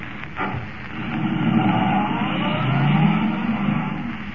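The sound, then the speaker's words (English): A car engine roars at top speed as the car is forced to the limit of its speed, racing toward Linwood, its pitch climbing and holding steady in a loud, continuous drone, with no voices over it. “Forcing the car to the limit of its speed, Kent races toward Linwood”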